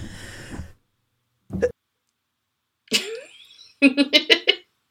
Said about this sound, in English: Cough break. Sorry, just it came up. I knew it was coming.